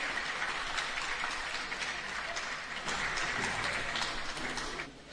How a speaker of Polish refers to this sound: Dziękujemy, zapraszam grupę z Sieniawy. Tak, tak, pomóżmy im oklaskami, z radością tu przyjść.